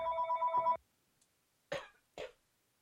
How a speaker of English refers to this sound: I'm sorry, that was my phone.